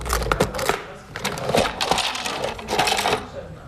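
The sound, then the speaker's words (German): Small glass and plastic cosmetic containers, such as bottles, little jars, eyeshadow palettes and pencils, clink and clatter as they are taken from a small silver case and set down one after another on a hard coffee table in a home, a busy run of sharp taps over about four seconds. “Große und kleine Flakons, Döschen, Lidschattenpaletten, Stifte, Wattestäbchen und Schwämmchen.”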